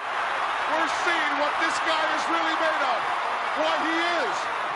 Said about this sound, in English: And probably to this day, the biggest pop in American professional wrestling history, because the place went bananas when he body slammed him. And my favorite is, and I'm going to play right here, the clip of the body slam.